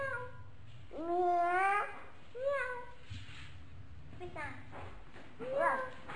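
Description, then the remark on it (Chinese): Four drawn-out, wavering meow-like cries, moderately loud, spaced over a few seconds with quiet gaps; they sound like a small child's voice imitating a cat. “猫咪， 猫咪， 有吧？猫咪吧”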